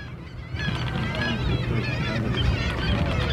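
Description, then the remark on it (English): A dense chorus of sea lions calling on an island in Glacier Bay National Park, overlapping honking barks and groans that swell in after a brief quiet moment and carry on steadily over a low rumble. “There's sea lions down there.”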